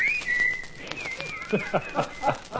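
Clear whistling by a group of men carries a sustained, gently wavering melody line, then gives way to a handful of short, evenly spaced bursts. The whistling is moderately loud, with no talking.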